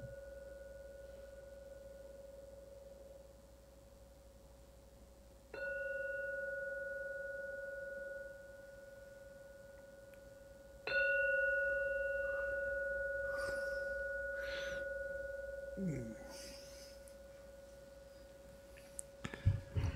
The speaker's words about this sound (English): I will soon ring the gong 3 times. When you start hearing the gong ring for the 3rd time, please come out from your meditation.